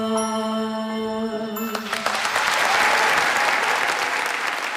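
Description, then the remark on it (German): A sustained musical chord rings out and breaks off, and loud, dense applause from a theater audience after a scene immediately swells up and keeps going steadily, a thick wash of clapping hands with no voices standing out. “Fast nach jeder Szene gibt es tosenden Applaus.”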